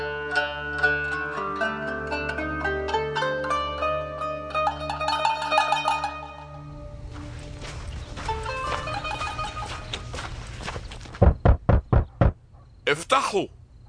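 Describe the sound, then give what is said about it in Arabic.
Five or six sharp, loud knocks on a wooden door in quick succession, following a stretch of soft music and ambient sound, with a brief voice-like sound right after: Peter knocking late at night at the house of Mary, mother of Mark, in Jerusalem. “خبط على الباب، وبعد شوية سمع صوت شابة اسمها رودا جت قريبة من الباب”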